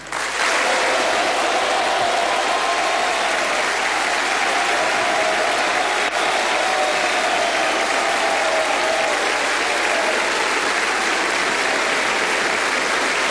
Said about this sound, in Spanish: Un aplauso atronador se escucha en el Salón de Honor mientras José Antonio Kast comienza a hacer ingreso al salón caminando por el centro